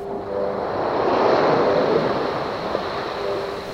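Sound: ocean waves and wind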